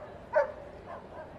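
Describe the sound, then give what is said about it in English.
A dog barks once sharply, followed by a couple of softer yips, all set against a steady murmur of crowd noise at a baseball game, where fans have brought their dogs to a Friday home game. “Some fans bringing their dogs out tonight, every Friday home game.”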